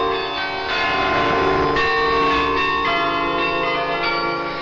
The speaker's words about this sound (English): It's Meer Toch Hoesterk, our interval signal that would announce Radio Netherlands' arrival to the shortwaves.